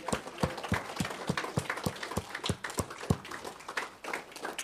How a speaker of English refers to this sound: Yeah, I want us to stand and honor them through clapping.